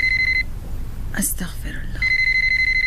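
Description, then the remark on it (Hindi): A telephone with a receiver rings with a steady, high-pitched electronic tone in two bursts, broken by a short pause holding a brief murmur or rustle before the ringing resumes. “बेटी रिसीवर उठा लो, जो भी हुआ उससे कह दो बाबा बिल्कुल ठीक है, अम्मी मसरूफ है, बाद में आपको फोन कर लेंगी।”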